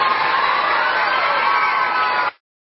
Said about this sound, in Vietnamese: Bây giờ các cháu hãy dành tràng pháo tay.